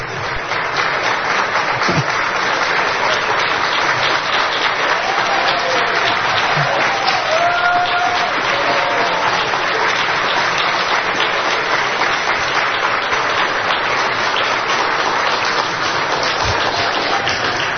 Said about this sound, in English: If I get that kind of applause, imagine what Marjorie's going to get.